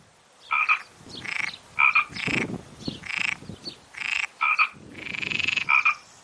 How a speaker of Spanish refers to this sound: Por lo visto está la rana toro.